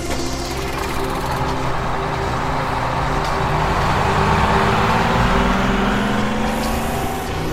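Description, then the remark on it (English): A heavy vehicle engine roars steadily, its pitch shifting as the vehicle accelerates away from a town, with road rumble filling the whole stretch and no voices. “We got into the vehicle and raced from the town, out of a team of 15.”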